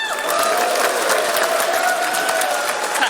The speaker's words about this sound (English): the cheering suggests that we want Cliff and Kate to come back up